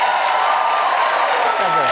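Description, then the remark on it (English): A studio audience applauds and cheers loudly for Buttigieg after he asks them to, a dense, continuous wash of clapping with voices whooping throughout, steady for the full couple of seconds. “Firstly, you should never have to ask an audience to cheer for you, like for something you've said.”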